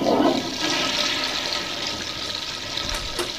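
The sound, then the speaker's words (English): A bathroom toilet flushes with a loud rushing gurgle of water that starts strong, then settles into a steady hissing swirl as the bowl drains and refills. No one speaks. “We now bring you to Finster, who is standing outside the bathroom door waiting for Crystal to finally finish on the toilet.”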